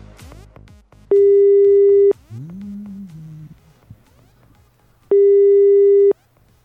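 Soft clicks of a phone being dialed to call a shop give way to a ringing tone on the line: two long, steady electronic beeps about four seconds apart, with a faint low hum and warbling tone between them.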